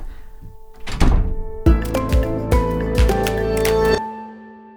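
A door is pushed shut with a solid thunk, followed by several quick knocking clunks as it settles into the frame. No one speaks.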